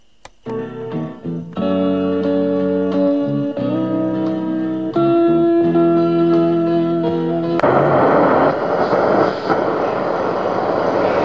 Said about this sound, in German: Wahrscheinlich durch ein Flugzeug. Wo fliegt es denn? Es klingt ganz aus der Nähe.